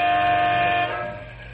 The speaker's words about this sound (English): Three big transport trucks owned by Canyon City Truck Company are waiting for the freight to move so they can be on their way. Big Jim Mandel leans on his air horn as he grows impatient.